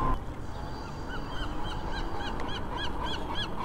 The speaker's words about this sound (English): Seagull's just carrying on like nothing happened, bro.